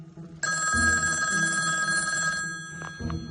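A telephone rings on the line as a call is placed from a room phone at the Pink Motel: a steady electronic trill lasting about two seconds with bright sustained tones, fairly loud, then a faint second burst begins after a short gap.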